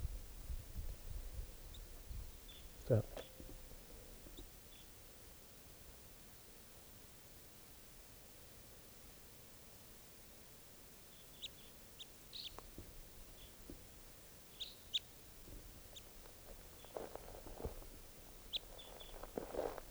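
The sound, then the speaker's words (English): Faint, scattered high bird chirps over a steady low rumble of background noise, with a sharp tap near the start and a few brief clusters of calls later on. “Hear the birds.”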